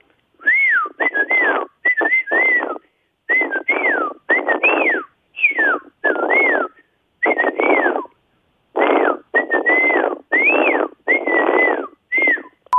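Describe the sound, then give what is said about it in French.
Someone whistles a tune, loud and clear, in a series of short melodic phrases separated by brief pauses, with no talking. “Message à celui qui siffle toute la journée, du matin au soir, sur le secteur de Langevin, Bois Noir.”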